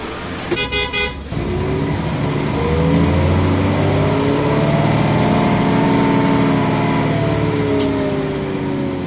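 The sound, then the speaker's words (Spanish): A large bus engine revs loudly and steadily as the bus departs from Srinagar in Indian-administered Kashmir toward Muzaffarabad on the Pakistani side. Its pitch rises and falls, with a short horn blast at the very start. “Un autobús partió de Srinagar, en la zona administrada por India, hacia Muzaffarabad, en el lado pakistaní, desde donde otro transporte inició su ruta a la inversa.”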